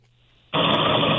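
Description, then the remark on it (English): A faint low hum gives way abruptly to a loud, steady roar of subway train noise, heard through a narrow, muffled phone line with no voices. “you got a lot of noise going on.”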